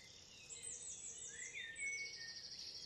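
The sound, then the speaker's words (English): A dawn chorus of several birds starting to sing at once at first light, high chirps, trills and rising whistles overlapping continuously, soft over a quiet outdoor hush, with no one talking. “Okay, it's dawn and we've just come out to hear the bird song starting.”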